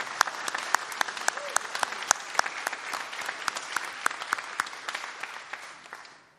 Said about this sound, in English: so can we give her a round of applause?